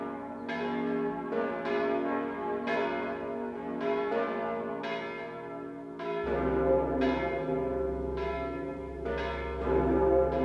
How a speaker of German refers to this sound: Budapest, die letzten beiden Glocken von Matthias.